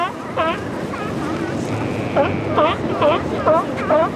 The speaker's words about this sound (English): The belchy roar is coming from the Stellar sea lion, where the barking is coming from the California sea lions.